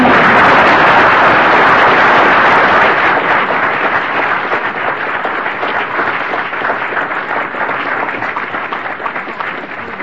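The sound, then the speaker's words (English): A conference audience applauds the conference's sponsors and coordinators, a dense wash of many hands clapping for the full stretch that starts loud and eases off slightly toward the end, with no voices standing out. “Recommend a round of applause for them.”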